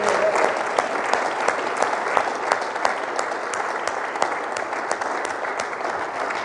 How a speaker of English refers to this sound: Let's give the folks at home a big round of applause. Come on.